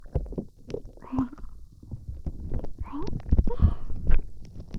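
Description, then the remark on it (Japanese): Wet, squelchy sounds of carbonated fizzing slime worked over the ears, with a fine crackling fizz, shifting and bubbling in irregular bursts that swell louder toward the end, with no voice present. “ただ炭酸の音がより聞こえるように耳 で行ったって。”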